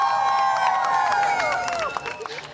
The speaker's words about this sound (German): Applaus und viele erleichterte Gesichter.